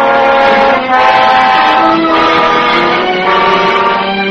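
A train's horn blares loudly and steadily for several seconds over the rumble of rail cars at a railroad station, with no one speaking.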